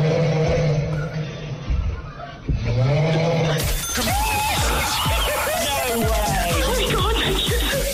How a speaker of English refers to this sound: That's very heavy snoring.